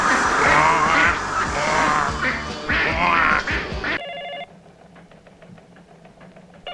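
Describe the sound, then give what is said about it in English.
Loud, raspy quacking from a creature that is half frog and half duck, a dense burst of repeated calls lasting a few seconds, then a hush with a brief electronic beep and faint clicking. “But what does one feed to a creature that is half frog and half duck?”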